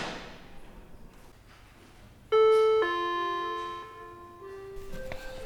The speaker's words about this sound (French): La sonnette.